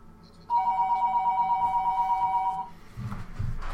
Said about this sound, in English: I always get busted for my phone ringing.